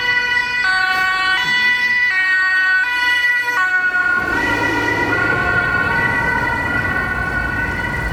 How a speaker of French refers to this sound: Voilà l'ambulance qui revient. On va la laisser passer.